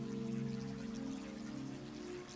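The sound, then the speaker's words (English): Water from a garden waterfall pours and rushes steadily into a stream, a soft, continuous wash that never lets up, with a low sustained hum droning beneath it. No one speaks. “There are flower beds set in the lovely lawn, and further along is a waterfall flowing into a stream. Listen to the sound of the water.”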